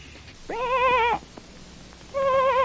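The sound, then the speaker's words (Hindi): Two wavering sheep bleats from a shepherd's lost sheep in a forest on a dark night, with clouds, strong wind and light rain, with a quavering, tremulous tone, the first longer and the second cut short at the end, heard clearly with a brief quiet gap between them. “तब गडरिये ने पहचाना कि ये उसी की भेड़ की आवाज है।”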